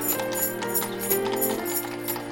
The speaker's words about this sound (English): That is one of the sounds that you'll hear is the clippity-clop of the horses and the jingle bells on the carriages as they're riding by and the laughter of children.